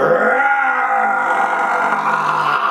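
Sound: imitated lion roar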